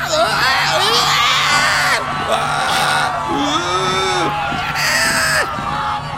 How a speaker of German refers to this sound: Die Musik bricht plötzlich ab. Blablabla. Und vom Eingang hinunter fällt nach hinten der Türsteher und purzelt die komplette Treppe bis zur Tanzfläche hinunter. Geschrei und Getose macht sich im kompletten Club breit.